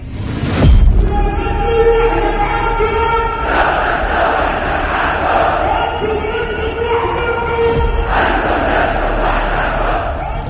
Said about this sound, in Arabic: الذي احتفى به شعبنا ليصل إلى الشعب الفلسطيني في غزة هتاف الملايين، هتاف حناجر الرجال الأوفياء الثابتين الصادقين الصابرين الذين هتفوا بعزم وصدق: لستم وحدكم.